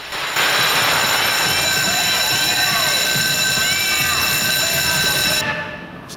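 The old electric bell system of a bungalow rings loudly and continuously for about five seconds, a harsh, steady metallic clatter that cuts off abruptly, with faint murmuring voices underneath.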